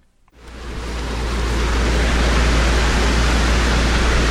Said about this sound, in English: And here along the Thames, he found a similar structure and clearly took delight in the contrast between the placid river above and then the river breaking into rapid moving waters, white foam, as it breaks through the weir.